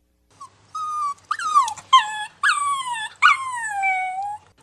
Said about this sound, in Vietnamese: Có con chó dại thân đầy ghẻ lở, chạy lon ton vòng quanh theo tôi, vừa rên rỉ, vừa tru lên như than thở.